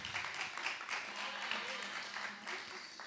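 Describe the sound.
A crowd applauds steadily for a few seconds, a dense, even patter of many hands clapping at once, with voices faintly mixed in beneath the clapping.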